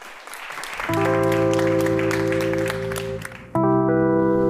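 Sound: audience applause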